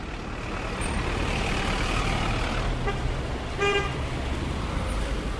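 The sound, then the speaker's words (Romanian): Steady roar of busy street traffic with engines rumbling, and a short car horn honk sounds clearly near the middle, with a fainter toot just before it. “La câte mașini sunt, vi se pare că e un mediu sănătos?”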